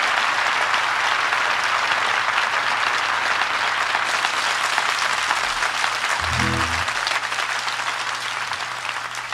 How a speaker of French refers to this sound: Applaudissements